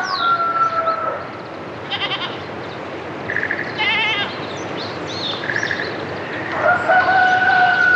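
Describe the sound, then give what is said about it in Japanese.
Roosters crow in long, drawn-out calls at the start and end, while goats bleat and wild birds chirp in short bursts over a steady rural outdoor morning ambience at Mitakido, Tome City, northern Miyagi Prefecture, Japan, with no one talking. “ヤギやニワトリ、野鳥たちが朝を知らせています。”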